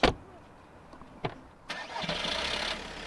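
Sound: car engine starting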